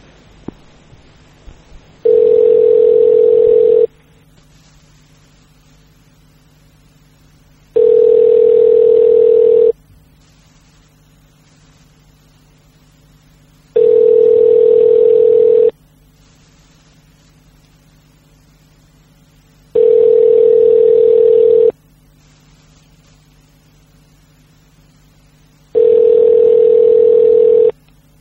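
A telephone ringback tone on an outgoing call, sounding five times in steady two-second bursts separated by longer pauses. It is clear and fairly loud, with no voices over it.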